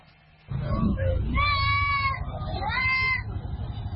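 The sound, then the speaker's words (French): Busy outdoor livestock market at Garbal, the livestock market of Bobo Dioulasso, as Tabaski approaches: a steady wash of crowd noise and voices, with two drawn-out, wavering animal bleats rising over the din. “Nous sommes à Garbal, le marché du bétail de Bobo Dioulasso.”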